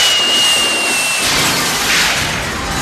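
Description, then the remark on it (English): A thin high whine over hissing noise is cut off by a loud, sudden explosive burst as a head explodes, throwing everyone to the ground, which gives way to a sustained rushing roar. No one speaks. “The head explodes, throwing everyone to the ground.”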